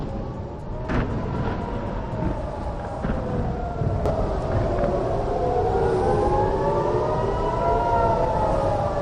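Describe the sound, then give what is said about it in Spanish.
An emergency warning siren wails in the street, its pitch slowly rising and falling in long sweeps over a steady low rumble, holding loud and continuous throughout. “Imagina que estás saliendo del curro, camino de tu casa para cenar con tu familia, y de pronto oyes esto, este sonido en plena calle.”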